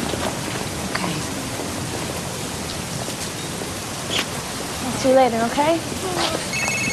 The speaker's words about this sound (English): Mother and daughter walk in the rain.